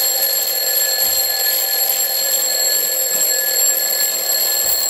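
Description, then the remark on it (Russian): An alarm clock rings continuously and loudly, a dense metallic ringing with steady high tones that holds at constant volume for the whole stretch, with no voices. “Внезапно голоса молящихся людей стихли, и среди наступившей тишины резко раздался знакомый звон будильника.”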